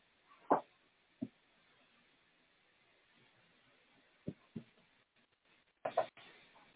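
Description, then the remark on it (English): A clothes dryer running in a house, rattling like someone jiggling a door handle: sharp, irregular clunks, some in quick pairs, standing out over a faint, steady background hum, with no voices. “I think it's the dryer.”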